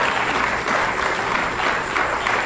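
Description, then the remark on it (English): An audience claps hands together for the Lord in a dense, steady burst of applause lasting a few seconds, fairly loud, with no clear speech over it. “Give the Lord a hand clap for that if you know you shall not be ashamed.”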